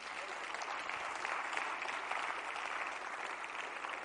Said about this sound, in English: Why don't we give him a hand clap for that?